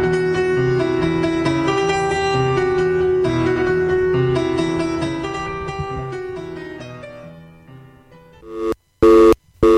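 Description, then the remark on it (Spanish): A sustained, layered electronic tone fades out, then short, loud telephone beeps cut in and out: the called mobile phone is switched off or out of coverage, with no voices. “móvil de Gun está apagado fuera de cobertura”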